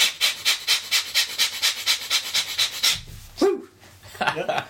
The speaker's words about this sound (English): was just rapidly breathing in and out of his nose. With a great deal of excitement, kind of bent over as well.